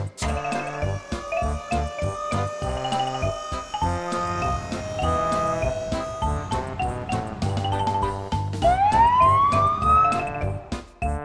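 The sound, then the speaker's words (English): A fire truck siren wails upward in pitch near the end, sounding over a bright, bouncy musical backing that plays throughout. “F is for fire truck.”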